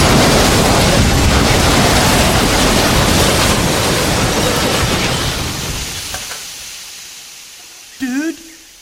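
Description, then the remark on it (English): A massive collision between two trains on the same track erupts as a roaring wall of noise, grinding and hissing for several seconds before fading, with a brief wavering tone sounding at the very end. “Dude, there's another train on this track. Buddy, it's coming at us.”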